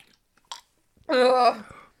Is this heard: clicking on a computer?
no